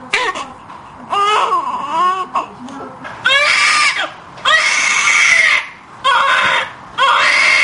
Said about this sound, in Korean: 신생아들의 울음에도 차이가 있다. 신생아들에게 울음은 유일한 표현 수단이다. 정상 울음은 소리의 높낮이가 규칙적이다. 배가 고프다거나 놀아달라는 표시다.